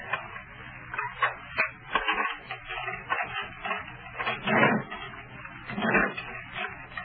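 Keys rattle and a lock clicks open, followed by the heavy metallic clatter and scrape of a jail door being pushed back open, with no talking.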